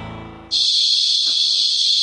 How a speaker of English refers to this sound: Ah, yes, the sounds of summer. Or it could be the sound of giant cicadas flying right through the holes in your screens.